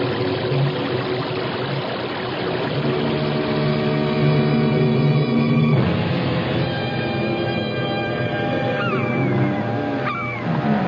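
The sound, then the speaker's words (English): A loud, unbroken roar of a whirlpool's churning, rushing water swirls throughout, dense, with sustained ringing tones rising over it and a brief gliding pitch near the end. “It sounds like a giant waterfall. There are no falls around here. It's a whirlpool.”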